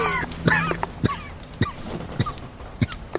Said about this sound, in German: Medizin. Sie wird deinen Husten lindern.